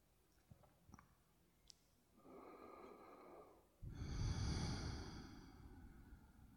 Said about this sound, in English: Let's take a few breaths here, just feeling, listening, breathing.